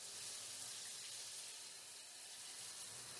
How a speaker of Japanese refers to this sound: ほらほら、早くお風呂に浸かるためにもさっさと洗っちゃいましょう。それじゃあシャワー流しますよ。まずは髪の方から。